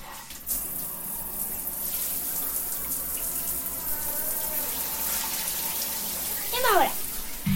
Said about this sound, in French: Voilà, la salle de bain. La petite douche. Ça, c'est le sol de la douche. Voilà, nous allons avoir l'eau de la douche.